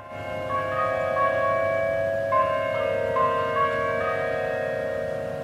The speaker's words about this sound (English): Most days, the bells play the traditional Westminster quarters and slowly chime the number of each passing hour.